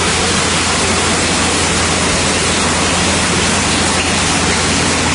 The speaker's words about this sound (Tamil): உங்களை அப்பப்ப கை தட்டுங்க கரவோலி எழுப்புங்கன்னு கேட்டுக்கிட்டார்.